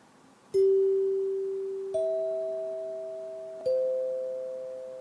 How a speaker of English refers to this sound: One final example of a hand-struck chime, this time from the West Coast, originated program Hollywood on the Air, September 30th, 1933. Again, we hear a Deacon 20 chime set, CAF, but unfortunately, only the chimes.